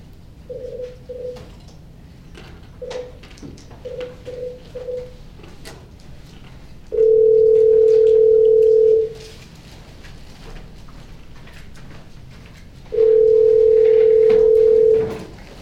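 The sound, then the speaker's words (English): A veterinary board places a telephone call to the complainants: a scattering of short, clear keypad-like beeps, then two long, steady phone tones a few seconds apart, loud, with no one speaking. “Can I get the complainants on the phone?”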